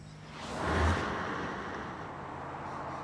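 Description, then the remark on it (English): A convertible sports car speeds along a country road, its engine surging to a loud peak early on, then settling into a steady rush of engine and road noise. No one speaks. “Artie notices a convertible sports car speeding along a country road.”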